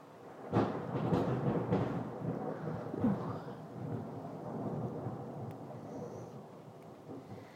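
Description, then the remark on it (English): A deep roll of thunder breaks in with a sharp crack, then rumbles on and slowly fades, with a soft wash of light rain underneath and no voices. “Rain seems to have eased off a bit. Now we're just getting the thunder.”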